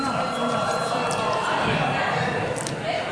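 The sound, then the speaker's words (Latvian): A parliament bell rung for the deputies before a vote rings steadily for about three seconds, a dense buzzing tone at even loudness, with a faint murmur of voices underneath. “Lūdzu zvanu.”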